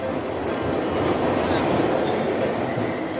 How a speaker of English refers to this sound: Trust me, even if you don't think you care about rats, we are going down the subway station.